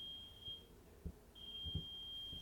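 A shrill, steady electronic tone beeps in long stretches, like a smoke detector alarm, heard faintly, with a few soft low thuds in the background; an alarm going off in Dresden.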